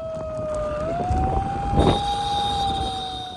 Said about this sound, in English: She was gripping a siren in her free hand.